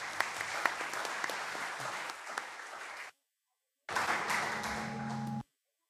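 A crowd applauds steadily, a dense wash of many hands clapping for about three seconds, then stops; after a short silence another burst of applause follows, with a faint tonal hum underneath.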